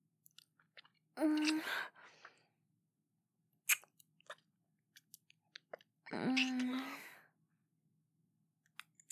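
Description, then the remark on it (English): Quiet chewing and swallowing: scattered wet mouth clicks, broken by two short voiced, throaty sounds a few seconds apart, with no talking. “I mean, you should have waited until after I fully swallowed, you idiot.”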